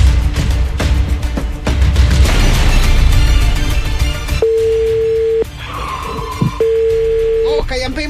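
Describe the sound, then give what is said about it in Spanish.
A telephone busy signal: a steady electronic tone sounds twice, about a second each with a pause between, clear and fairly loud, following a stretch of busy, noisy music-like sound. “El teléfono que marcaste está ocupado por ahora.”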